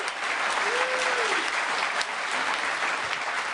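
A steady burst of audience applause, dense and loud, with many hands clapping continuously at an even level for the whole stretch, and a faint voice or whistle briefly rising above it.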